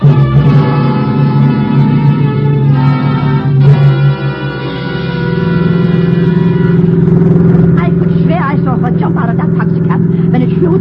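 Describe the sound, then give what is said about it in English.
A car engine hums steadily and loudly throughout, with a low droning rumble that swells slightly midway, and indistinct voices break in briefly near the end. “Come on, let's get down on you to the car, fast.”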